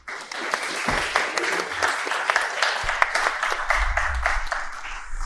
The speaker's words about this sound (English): If you wouldn't mind applauding as he gets up, that would be brilliant.